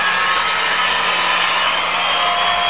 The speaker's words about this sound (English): The crowd being asked to supply a little noise by the scoreboard, and they respond.